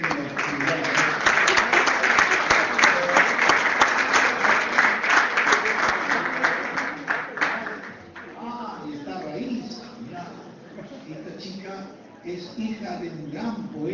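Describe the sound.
Loud, dense applause from an audience rings out for about seven seconds, then thins to scattered claps and gives way to a voice speaking.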